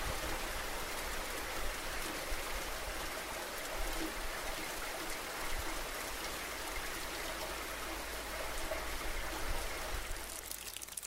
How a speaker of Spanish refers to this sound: Yo soy la lluvia y el granizo que cae sobre los carros amontonados en las calles.